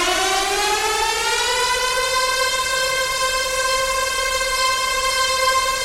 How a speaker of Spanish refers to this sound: Dame una alarma, Willy. Cuando tú te tomas un analgésico para quitar un dolor, esto es lo que estás básicamente silenciando en tu cuerpo.